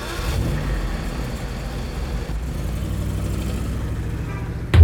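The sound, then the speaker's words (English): A bus engine rumbles and revs as the vehicle pulls away, a steady low mechanical drone that holds for several seconds before a brief thump at the very end. “Then that's where we'll go. Athens, Georgia. To the cat bus.”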